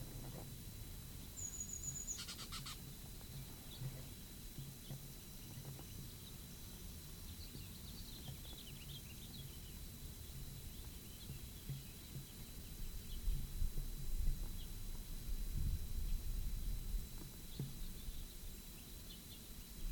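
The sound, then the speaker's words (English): Faint bird calls carry from down a gully: a brief, high whistled note early on, then a few soft, thin chirps, the birds giving Sweebeak and Terwee Terwee calls, set against a steady low rumble with no talking. “Sweebeak and Terwee Terwee are given by birds down the gully.”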